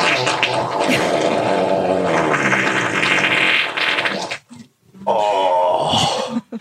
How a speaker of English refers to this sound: I challenge any of you think you can fart bigger than me.